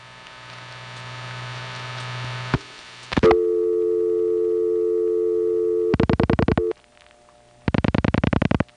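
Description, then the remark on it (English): Telephone line signaling: a panel switch sends a steady MF tone for several seconds, then two bursts of rapid, evenly spaced revertive pulsing clicks cut in over a faint background hum. The clicks are crosstalk from an unrelated phone call. No one speaks. “During the time that my panel is sending MFs, there's also some revertive pulsing.”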